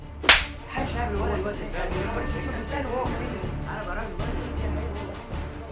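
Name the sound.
slap across the face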